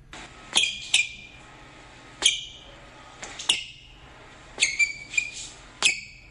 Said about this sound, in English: Oh, those are squeaky shoes on a basketball court or something.